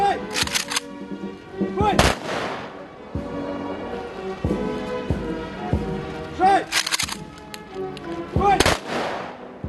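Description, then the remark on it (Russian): Ceremonial rifle volleys conclude a flower-laying ceremony at the monument to Kuzbass heroes in Kemerovo Oblast, ringing out as several loud, sharp cracks in uneven clusters, each fading in a brief echo, over a steady murmur of voices and sustained tones. “Завершилось мероприятие оружейными залпами и строевым шагом парадного расчета.”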